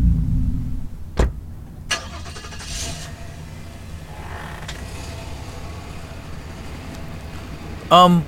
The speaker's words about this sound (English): Who was that? You don't know anyone who drives an old... What was that, a Datsun?